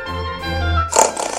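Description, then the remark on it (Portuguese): A person imitates a pig during a recited poem about animals, starting with a long, low, droning grunt and breaking into a couple of rough, snorty oinks. It is fairly loud, with no other talking. “Diz o porco:”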